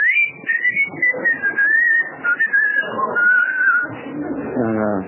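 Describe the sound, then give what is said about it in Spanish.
A person whistles one long, wavering note as a warning signal that someone is coming; the note slides gently in pitch for several seconds, clear, over a low, busy background murmur. “Cuando ven que viene alguno, sí. Me chiflan.”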